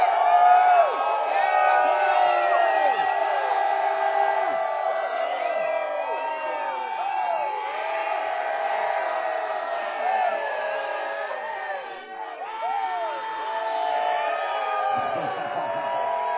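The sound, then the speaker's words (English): A large concert crowd yells, whoops and cheers continuously, a dense wash of many overlapping voices that stays loud and sustained throughout, with scattered individual shouts rising above the roar. “Until you guys make a lot of noise, you're stuck listening to me talk, so you better yell. Loud. All of you.”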